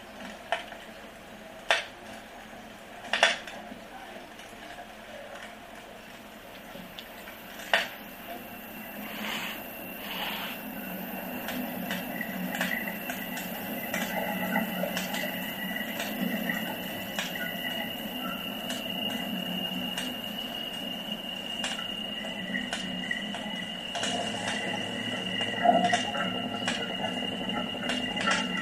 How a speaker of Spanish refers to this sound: Antiguamente, en Galicia se utilizaban hornos de leña para hornear el pan. Escucharemos su sonido y después cómo este se multiplica en el espacio estereofónico.